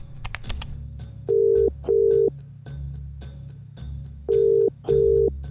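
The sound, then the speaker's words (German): A few clicks as a woman picks up a phone and dials her sister's number, then a ringback tone purring in paired double bursts, two cycles separated by a pause, over a low steady hum. “Hastig nimmt sie den Wasserkocher vom Herd, greift zum Telefon und wählt die Rufnummer ihrer Schwester.”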